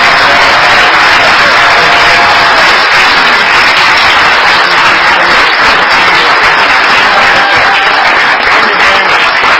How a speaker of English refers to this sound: So let's give him a big round of applause.